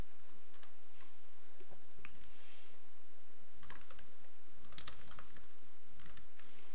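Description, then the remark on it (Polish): Rapid, irregular keystrokes clatter on a computer keyboard as someone types a change to a text string in Visual Studio, fairly quiet, with short bursts and brief pauses of typing and no voices. “Wróćmy do Visual Studio i zmodyfikujmy na przykład ten ciąg znaków. Wpiszemy tutaj”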